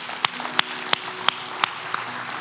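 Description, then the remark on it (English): An audience claps together in a steady beat, six sharp, evenly spaced claps roughly three per second, over a low background hum with no talking. “Everybody said loudly and clapping.”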